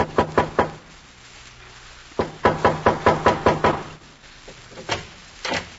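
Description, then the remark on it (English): A hungry transient knocks at a house's back door: a quick burst of four sharp wooden raps, a pause, then a longer run of steady knocks and a couple of final taps, fairly loud with no voices. “There is a knock at the back door.”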